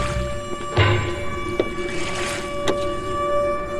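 A small boat heading back toward a park moves across water with a steady motor-like drone and sloshing, broken by a few sharp splashes or knocks, with no voices.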